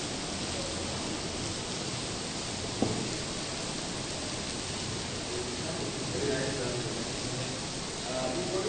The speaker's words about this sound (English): And the rain is very heavy.